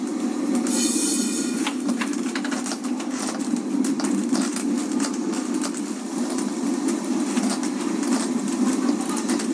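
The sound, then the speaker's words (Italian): A Lisbon tram rumbles steadily along city rails, with a brief high metallic wheel squeal near the start and scattered rattles and clacks throughout. It is fairly loud, with no talking. “Tra i mezzi di trasporto più popolari di Lisbona non può mancare il tram.”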